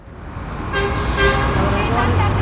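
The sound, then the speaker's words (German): Evening rush-hour traffic at a central square in Addis Ababa, Ethiopia: a steady roar of engines from cars on four lanes, with a car horn sounding clearly over the din, fairly loud. “Feierabendverkehr an einem zentralen Platz in Äthiopiens Hauptstadt Addis Abeba.”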